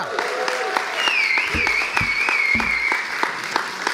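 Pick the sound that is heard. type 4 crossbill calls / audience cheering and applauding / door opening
audience cheering and applauding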